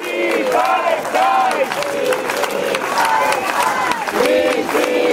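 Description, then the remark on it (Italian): A large crowd of families and supporters welcoming returning activists chants for Palestine in rhythmic, rising-and-falling voices while applause crackles steadily underneath, loud and continuous throughout. “Le famiglie e i sostenitori hanno accolto i rientrati tra applausi e cori per la Palestina”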